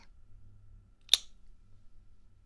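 A single kiss, a short wet smack against a cheek, standing out once against a quiet background hum with no talking.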